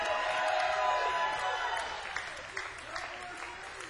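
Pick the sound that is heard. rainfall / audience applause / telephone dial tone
audience applause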